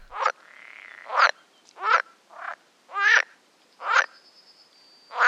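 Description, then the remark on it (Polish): Edible frog calls: a series of about six round, quacking croaks repeated at a steady rhythm, clear with faint background chorus between them. “Żaba jeziorkowa rechocze, a żaba wodna wydaje takie bardziej okrągłe dźwięki, które brzmią jak kłak.”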